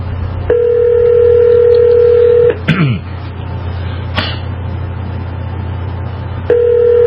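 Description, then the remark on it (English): A phone line rings out with a long steady tone, a short pause with a brief clicking burst, then the ringback tone repeats, heard clearly over a low constant hum. “Well, this is still ringing. I mean, that's a good sign.”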